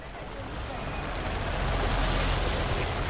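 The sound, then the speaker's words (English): Steady, dense heavy rainfall on a very rainy day in Pune, India, fills the scene with a continuous hiss and scattered sharp drop impacts, loud and holding constant throughout without any voices. “On a very rainy day in Pune, India, I recently met another woman”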